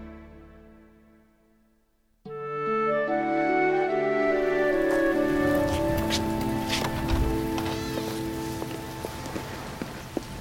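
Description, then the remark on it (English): A heavy rain downpour bursts in abruptly after a quiet start, becoming a loud, dense, steady roar of falling water that continues to the end, with sustained tones humming beneath it. “What a downpour. I'm soaked.”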